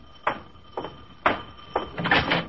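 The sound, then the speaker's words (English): A door is opened with a series of short clunks and rattles, ending in a longer scraping rush of movement, of moderate loudness, with no one speaking. “I open the door and then right into a story.”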